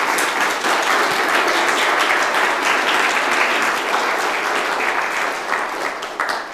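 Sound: audience round of applause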